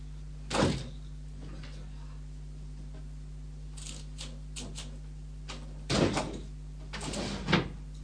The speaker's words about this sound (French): Là, peut-être on va fermer les tiroirs là, parce qu'ils sont...